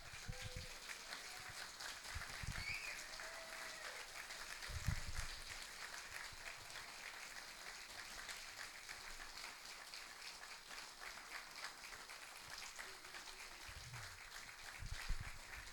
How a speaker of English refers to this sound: So let's stand and give this guy a round of applause.